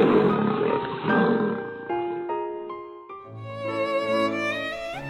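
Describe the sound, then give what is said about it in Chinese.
A loud lion roar rumbles for about two seconds, then gives way to a soft, bright melody of sustained tones. There is no talking. “她做了一个美妙的梦，在梦里她变成了一只像爸爸一样勇敢的狮子。”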